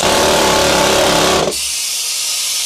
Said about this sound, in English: However, by the time dynamite was invented, they could accomplish this same task much faster with the use of pneumatic powered drills, which, in my opinion, were a nightmare in their own right.